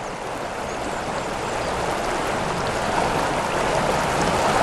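river water flowing

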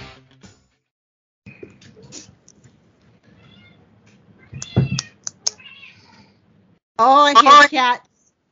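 cat meowing

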